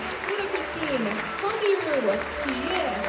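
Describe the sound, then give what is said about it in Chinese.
Sustained warm audience applause at the close of the Shen Yun New York Arts Company's sold-out second performance at the Jahrhunderthalle in Frankfurt, on the afternoon of 22 February: a dense, steady wash of clapping at moderate loudness, with a voice talking over it throughout. “在观众热烈的掌声中，纽约神韵艺术团在法兰克福的第二场演出圆满地落下了帷幕。”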